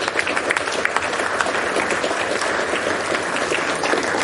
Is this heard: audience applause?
yes